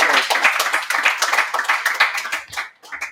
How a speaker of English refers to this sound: Please give these gentlemen a round of applause.